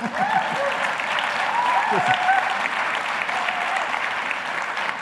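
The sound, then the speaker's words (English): Steady audience applause fills the space, a dense wash of clapping from a sizable, fairly partisan crowd that holds at a constant loudness, with faint voices and cheers mixed in. “You have a fairly partisan crowd.”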